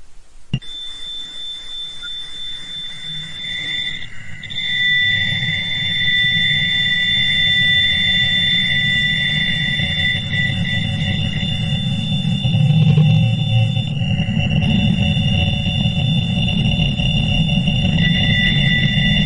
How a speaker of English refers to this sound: Now, I know I said that it's 72 seconds long. I'm only going to play a short tidbit. Oh, and headphones warning. The WOW signal is a little more high-pitched, so this is your moment to turn down your headphones, or skip ahead 30 seconds now.